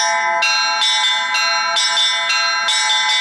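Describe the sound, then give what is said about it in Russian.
Church bells ring in a rapid, steady peal at an Orthodox culture festival in Penza, Russia, strikes landing about every half second with bright, shimmering overtones that linger and overlap. Loud, with no voices. “Тот факт, что колокольный звон является целебным, здесь знает каждый и старается получить свой кусочек духовного равновесия.”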